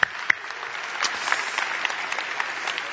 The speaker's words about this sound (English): Let's give them a little applause for sharing their story.